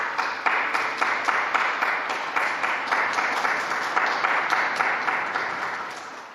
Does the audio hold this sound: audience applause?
yes